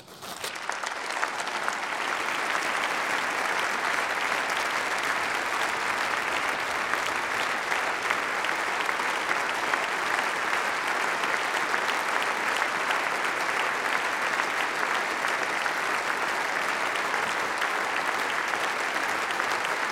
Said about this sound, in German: Ich habe schon damit gerechnet, dass ich ein bisschen Beifall bekomme. Aber Standing Ovation, das habe ich in meinen kühnsten Träumen nicht erhofft.